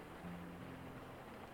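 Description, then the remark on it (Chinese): Rain that has suddenly started falls steadily in a soft, continuous hiss with no distinct drops standing out, and a faint low hum runs beneath it. No one speaks. “怎么突然下雨了？”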